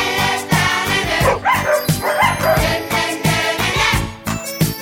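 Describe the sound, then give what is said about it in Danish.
A dog barks in repeated short bursts over a bright, busy musical jingle with a tinkling sparkle, all loud, with no talking. “Og nu kommer der en til, og den handler om en hund.”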